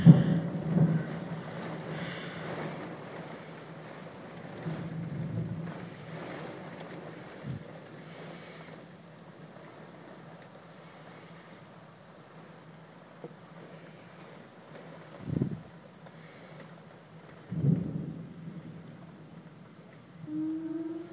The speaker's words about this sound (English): 4:15 in the morning, and we have one major thunderstorm, and I know a lot of you guys like to hear that, so I thought I'd try to get some of this.